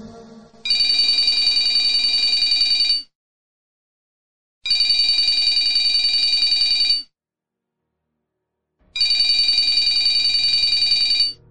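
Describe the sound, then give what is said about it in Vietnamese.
A telephone bell rings loudly in three long bursts of about two to three seconds each, separated by short silences, with a bright, rapid metallic trill. No one speaks. “Tiếng chuông điện thoại dồn dập vang lên”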